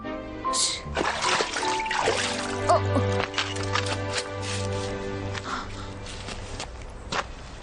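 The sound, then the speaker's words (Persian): Water at a temple splashes and trickles in irregular bursts as someone drinks from it, with sharper splashes scattered through, over a steady low tonal hum in the background. “آه خدای من، سر حال شدم. از آب لذت میبری؟ تو هم بیا بخور.”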